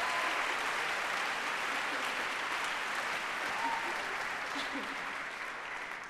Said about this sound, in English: Thank you. I'm sorry that I had to beg you into clapping for that.